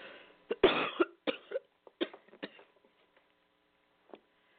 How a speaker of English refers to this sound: excuse me, I have to cough.